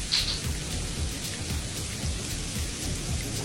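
rain falling

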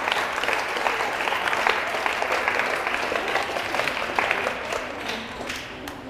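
big round of applause

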